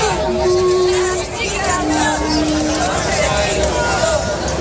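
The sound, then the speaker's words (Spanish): A large crowd of protesting health transport workers outside Gregorio Marañón Hospital on a sunny morning roars with dense overlapping shouts and cheers, loud and continuous, with a few sustained vuvuzela tones rising above the din. “Los portadores sanitarios que reclaman la jubilación anticipada, la subida salarial y una jornada laboral de 35 horas, uno de los puntos que más aplausos y gritos ha desatado.”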